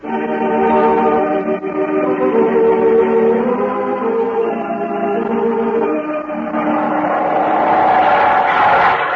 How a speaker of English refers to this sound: Look at that plane shoot across the sky. Mm, that's a Mustang. That can just about outrun anything in the sky.